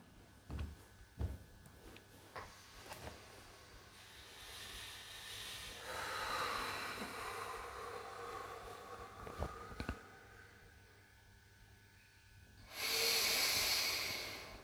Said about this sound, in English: And when you're breathing again, you can try out the inhale, exhale, little retention.